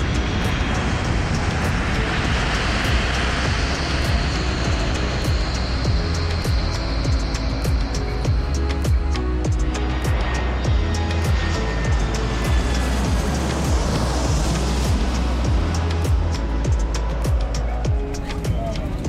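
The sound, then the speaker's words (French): Inside an airliner cabin during takeoff: a loud, steady engine roar with deep rumble fills the space, rising in pitch partway through, with scattered rattles and clicks and faint muffled voices underneath. “Pour le décollage, veuillez redresser vos dossiers, abaisser vos accoudoirs, relevez vos tablettes et vos stores.”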